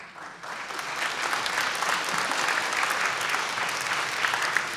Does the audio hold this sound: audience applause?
yes